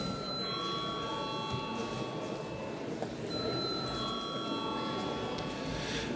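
parliament session bell

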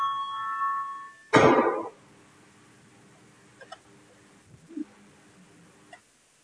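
parliamentary voting bell ringing

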